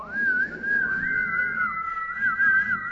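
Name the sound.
person whistling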